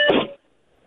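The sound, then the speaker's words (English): A single short electronic beep on a caller's phone line, a bright tonal burst lasting about a third of a second before cutting to near silence. No one speaks. “We heard some beeping there.”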